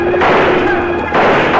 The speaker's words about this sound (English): Before Bob Kincaid can rally his men, Slagle and his outlaw crew sweep down with guns blazing, pouring a hail of lead at the surprised cowboys.